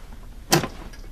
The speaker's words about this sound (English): The porter begins hacking at the door with an axe, but the door's no longer there.